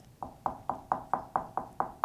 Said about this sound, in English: I knocked.